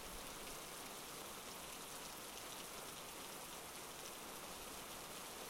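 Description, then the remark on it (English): Steady rain falls continuously, a dense hiss of drops spattering on a surface with no pauses or voices, evenly loud throughout. “Maybe I just want to stand here and let the rain ruin this dress and not have you analyze every twitch of my face.”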